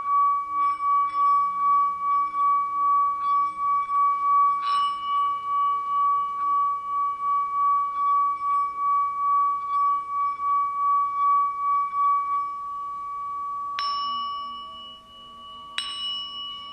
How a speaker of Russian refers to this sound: Вы просто чувствуете пространство между ушами. И внутри этого пространства гудит чашка.